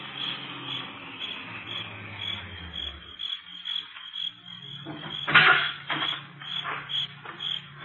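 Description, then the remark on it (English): A low car engine hum drops in pitch and fades out over steady croaking frogs and chirping insects, followed by a few short, louder knocks and rustles. “It's Carter. I know that car.”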